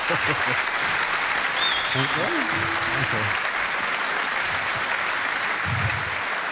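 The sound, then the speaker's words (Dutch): An audience applauds steadily and loudly for the whole stretch, a dense wash of clapping that never lets up, while a man briefly speaks over it partway through. “Mag ik een hartelijk applaus voor …?”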